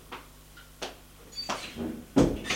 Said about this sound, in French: Pendant ce temps, le père va à la chambre de son fils. Et frappe à la porte de la chambre et il entre.